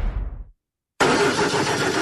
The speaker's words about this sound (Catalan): Així és com sona el motor d'un cotxe mal cuidat.